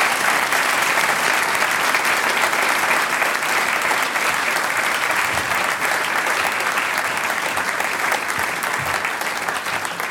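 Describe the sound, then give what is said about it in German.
Sustained applause from an audience fills the whole stretch, a dense, steady wash of clapping hands at constant loudness with no voices standing out. “Bitte klatschen, Dankeschön.”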